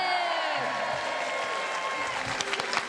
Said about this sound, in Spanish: ¡Aplaudimos, por favor!